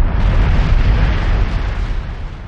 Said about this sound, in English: Massive volcanic eruptions brought forth the Hawaiian Islands from deep beneath the sea.